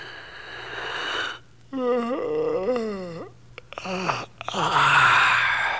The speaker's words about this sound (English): Then I heard a voice and it made a loud yawn.